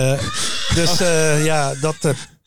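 A horse in the background whinnies once, a loud, shrill call with a wavering, quivering pitch that rises and falls over about two seconds before breaking off in short snorting bursts.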